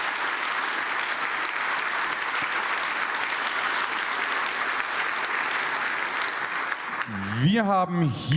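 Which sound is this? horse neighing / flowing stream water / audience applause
audience applause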